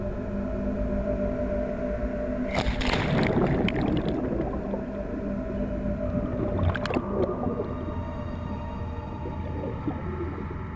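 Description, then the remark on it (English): Underwater ambience of scuba divers inside an Antarctic iceberg, descending to the seafloor while filming footage for the film Ice Island: a steady low rumble with eerie, sustained tonal groans, broken by two bursts of bubbling hiss, one longer early on and a brief one later. No talking. “diving inside an Antarctic iceberg.”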